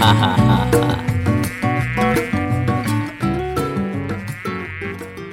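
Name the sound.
aedes aegypti mosquito buzzing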